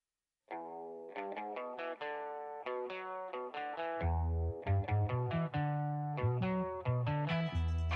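A pop song plays over a stadium PA system, starting with bright, rhythmic piano-like chords before a deep bass line joins halfway through. The music is steady and fairly loud, with no talking.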